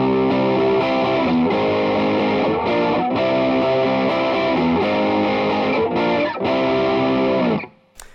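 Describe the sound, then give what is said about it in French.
A heavily distorted electric guitar strums full, thick chords (C, G sharp and A sharp in full six-string positions, in a 7/8 part) in a steady repeating pattern, loud, with brief gaps between chord changes before the sound cuts off at the end. “On répète en fait la même chose que la partie en 7-8 sans la distorsion, mais cette fois donc en gros son.”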